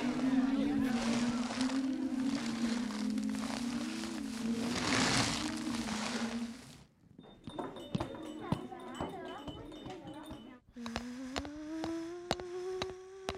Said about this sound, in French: Le ronflement, l'eau du robinet, le bruit de la voiture, les portes, les pas de la dame, les bouteilles, le réveil, le rideau.